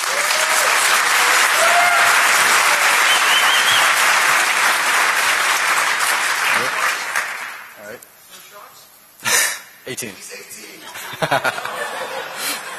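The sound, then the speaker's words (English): A large crowd at the DEF CON conference claps loudly and steadily for several seconds for a first-time speaker, with some laughter mixed in, before the applause fades out and a few scattered claps and murmurs remain. “Please give him a big round of applause.”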